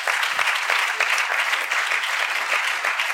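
An audience claps their hands in a steady, dense wash of applause, many overlapping claps blending into continuous bright noise for about three seconds with no talking.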